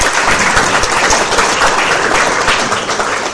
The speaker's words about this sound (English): So let's give a big round of applause for our speakers and moderators as well.